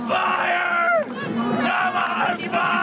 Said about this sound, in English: That is a dude shouting Kalima from Indiana Jones while tearing apart a bloody heart all over his face while people cheer on top of a burning American flag.